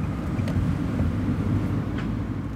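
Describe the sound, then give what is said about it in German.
A car drives around the Novartis site with a steady low rumble of engine and road noise, constant throughout and with no voices. “Wir gehen also zurück und nehmen das Auto.”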